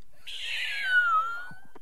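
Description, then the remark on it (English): A person imitates a kitten with one drawn-out, high, thin mew that slowly slides downward in pitch, followed by a couple of soft breathy noises. “My superior animal noise is I can do kittens.”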